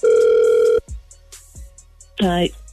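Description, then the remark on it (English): A single loud, steady ringback tone of an outgoing phone call placed early in the morning from a radio station, then a few clicks as the line picks up, followed by a brief voice answering. “I really hope she answers the phone.”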